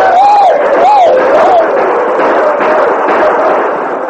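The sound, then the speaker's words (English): A war party of disguised Crow Indians charging down a steep slope, whooping and shouting together, with rising-and-falling high-pitched cries standing out at the start over a dense, continuous roar of yelling. “Whooping and shouting, they gave the impression of being five times their actual number as they charged down the steep slope.”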